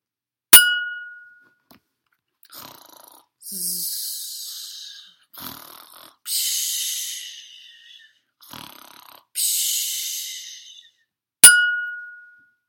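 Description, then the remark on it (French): Loud snoring in a steady rhythm: several raspy, hissing breaths in and out, bracketed by a single bright chime at the start and another at the end. “Il ronfle hyper fort, ….”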